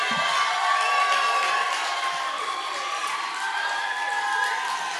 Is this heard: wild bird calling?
no